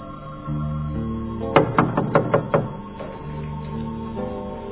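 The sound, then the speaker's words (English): Five or six firm knocks on a wooden door in a quick, uneven burst, set against a low steady background hum with no talking; Peter keeps knocking at the door. “But Peter kept on knocking.”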